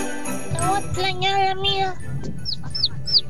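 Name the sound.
chick peeping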